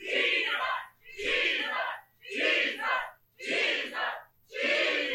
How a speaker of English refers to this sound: It's not for the purpose of repetition. It's for the purpose of emphasis. Once is enough. Are you hearing right now? So we're not shouting it 7 times because we didn't believe once. We're shouting it because emphasis.